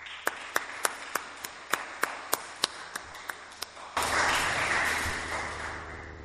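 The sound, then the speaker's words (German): A handful of separate, sharp claps come first at an uneven pace, then the audience joins in and they swell into a dense, steady round of applause that carries on to the end, applause for the Presbyterium's idea of setting up a candle stand where an offering can be made for a candle. “Ich finde, für diese Idee braucht es mal einen kräftigen Applaus.”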